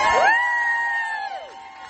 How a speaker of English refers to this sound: And I know that we got Durham police here, and they're keeping everybody safe on the road, so we have to give a round of applause that they're not interfering with this event.